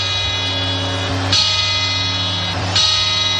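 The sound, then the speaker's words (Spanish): The bell of the Puerta del Sol clock tolls twice on New Year's Eve, part of the 12 chimes, each heavy metallic strike about a second and a half apart, its deep ringing overtones sustaining and blending between blows. “Y así hasta 12 campanadas.”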